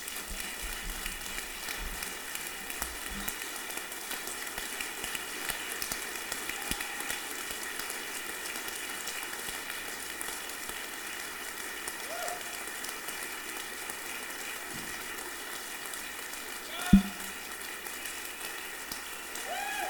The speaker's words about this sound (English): I think it would be very nice just as we invite the worship team to come up, just to invite the crowd to give God a standing ovation.